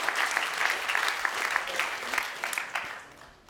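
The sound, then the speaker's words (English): An audience claps steadily, a dense crackle of many hands at a fairly loud, even level that gradually thins and fades toward the end. “Yeah, we can applaud God at work.”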